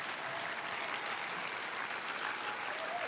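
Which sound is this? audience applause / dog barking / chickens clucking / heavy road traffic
audience applause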